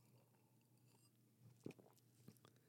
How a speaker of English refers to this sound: And, you know, every once in a while, you got to sip on a little whiskey. In the weeks past, you know, it's been a little light on that. So I'm going to take a quick moment just to take a sip here.